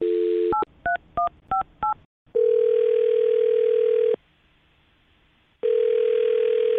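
A dial tone gives way to a quick run of four or five touch-tone beeps as a woman's phone number is dialed for a radio show call, then a long ringback tone, a silent pause, and the ring starting again. No voices.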